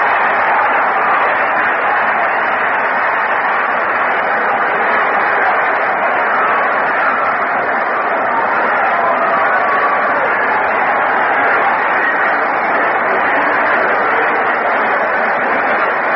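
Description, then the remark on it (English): A baseball stadium crowd at a Yankees game, as Colavito takes the mound to pitch, roars in a steady, unbroken wash of cheering and murmur, holding the same loudness for the whole stretch with no single voice standing out. “Listen to the crowd.”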